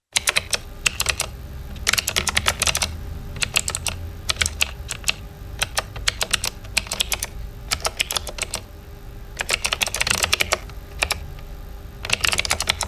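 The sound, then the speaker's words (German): Rapid keyboard typing in bursts of sharp, clicky keystrokes, with short pauses between flurries and a low steady hum underneath. No one speaks. “Wenn Sie jetzt noch eine Taste drücken, klingt das Ganze gleich viel besser.”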